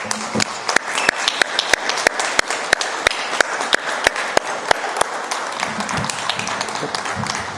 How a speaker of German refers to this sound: Mit diesen Worten würde ich zum einen Herrn Triebe bitten, nach vorne zu kommen, auch kurz zu uns zu sprechen und natürlich die Anwesenden, wenn es genehm ist, auch einen kleinen Beifall für diese hervorragende Leistung von Herrn Triebe.